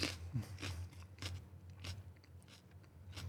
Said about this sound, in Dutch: Hij neemt nu een hap uit een rode, langwerpige rode peper.